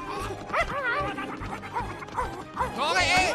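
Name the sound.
dog barking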